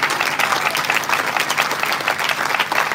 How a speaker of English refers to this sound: Can we clap our hands for Harvest Ministry? We honor you.